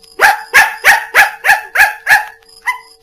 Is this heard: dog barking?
yes